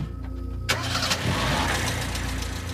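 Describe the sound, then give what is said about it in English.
The engine of an old 1930s flatbed prison truck with a top speed of 12 miles an hour cranks and catches with a sudden burst, then runs loud in a rough, uneven, spluttering rumble as it is floored up the hill into Mount Eden. No one speaks. “So George, who was part of it because he was the driver, he floored it best as he could, and they sort of spluttered their way up the hill into Mount Eden.”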